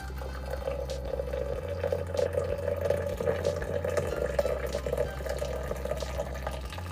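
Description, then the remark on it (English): Water pours steadily over ginger in a pot, to be boiled, for about seven seconds, a continuous splashing rush over a low background hum, with no one talking. “Boil a little bit of this ginger, add water to it.”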